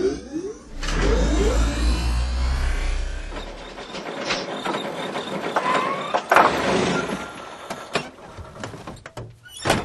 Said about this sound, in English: This is the very high-tech sounding, you know, turbo engine of Mr. Incredible's car.